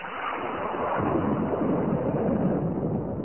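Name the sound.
thunder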